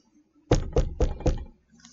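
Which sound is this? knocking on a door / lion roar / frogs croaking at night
knocking on a door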